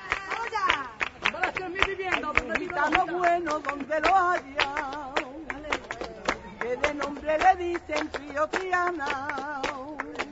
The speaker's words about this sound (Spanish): Les dejamos con las mujeres de las 3.000 cantando a capela por tangos y haciendo compás con las palmas